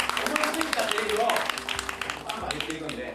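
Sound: audience applause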